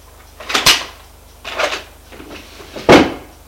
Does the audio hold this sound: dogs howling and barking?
no